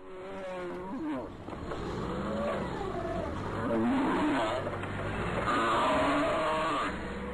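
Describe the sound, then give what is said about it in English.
Downer cows, too hurt or ill to walk, bellow and moan loudly and almost without pause in a slaughterhouse as they are forklifted, water hosed and beaten before slaughter, their strained calls wavering up and down in pitch over a steady low mechanical rumble and clattering handling noise. “A warning, the sound of these downer cows, cows too hurt or ill to walk, being forklifted, water hosed, and beaten before they are slaughtered, is difficult to listen to.”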